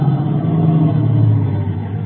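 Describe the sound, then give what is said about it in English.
A car engine hums steadily, a loud, continuous low rumble that eases off slightly near the end as the car slows to pull up beside another parked car. No voices are heard. “Pull up by him, Otis.”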